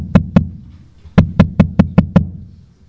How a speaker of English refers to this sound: So anyways, the second time they knocked.